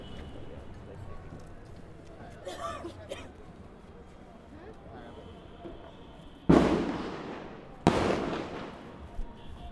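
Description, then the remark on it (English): Two loud fireworks boom outside a few seconds apart, each sharp burst trailing off in a crackling decay, over a low murmur of background noise and voices. “Sorry, I was trying to get the firework.”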